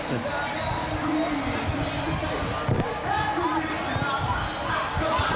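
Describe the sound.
A dense, steady roar of a large outdoor crowd of fans cheering and shouting at a downtown team parade celebrating the players, with overlapping voices and occasional sharp bangs cutting through the continuous celebratory din.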